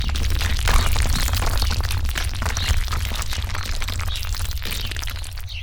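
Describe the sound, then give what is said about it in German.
A dense, continuous rumble of rock tumbling down inside a cave, with deep low-end weight and many sharp cracks and clatters layered throughout, steady and loud for several seconds with no voices. “Plötzlich hörte Jürgen ein Gepolter von herunterfallendem Gestein.”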